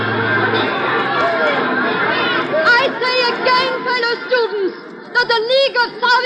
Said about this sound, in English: For three centuries, these cloistered halls have been a haven of quiet and dignity and peace. But now the silence is shattered. The old stone walls echo with the angry shouts of a student meeting.